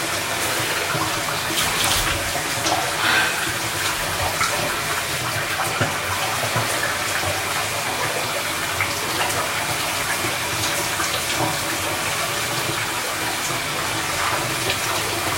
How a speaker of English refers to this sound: This like shower is not going cold. I don't understand. It's like getting hotter.